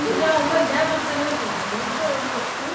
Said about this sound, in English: Because it's raining, again.